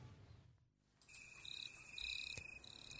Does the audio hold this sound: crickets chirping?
yes